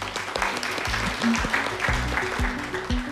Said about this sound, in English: And please give one last round of applause for the panel.